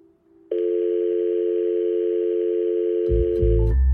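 A telephone ringing tone sounds on an outgoing call to Washington, one loud, steady electronic tone lasting about three seconds, followed by low rumbling handling noise and clicks as it cuts off.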